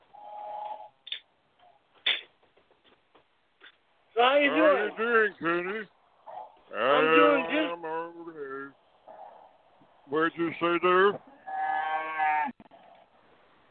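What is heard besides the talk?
cows mooing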